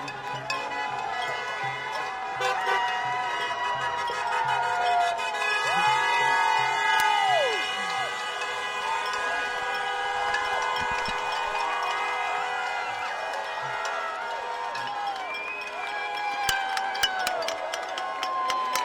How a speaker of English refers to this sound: They're still honking and celebrating.